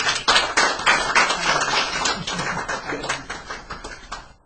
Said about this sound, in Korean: 실제 여러분과 같은 부모님이 겪으신 이야기를 우리 들어보시죠. 소개합니다. 네, 박수 한번.